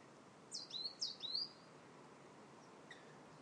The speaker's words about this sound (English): Bird song and wind. Seagulls zooming, and I mean zooming overhead, swirling in circles with that strong wind, enjoying it.